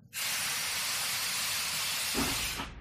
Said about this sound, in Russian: В ночи что-то запыхтело, вагон качнулся. Поехал.